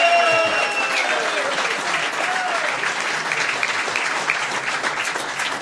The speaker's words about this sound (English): And I'm delighted to say I'm joined by Conor Gormley and Martin Penrose. A big round of applause.